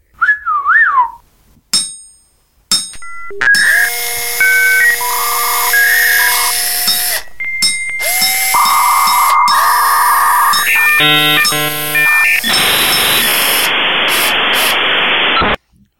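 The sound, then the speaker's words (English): Robot droid Argo D2 bleeps and whistles: a warbling whistle, then a run of electronic chirps, sustained tones and stuttering bleeps, loud, ending in a burst of hissing static. No one speaks. “It means that Argo D2 doesn't need to speak in bleeps and whistles.”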